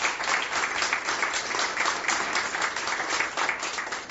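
An audience in the Dorfhaus Gossam applauds with steady, dense clapping that holds at an even level for the whole stretch, a continuous patter of many hands with no voices rising above it.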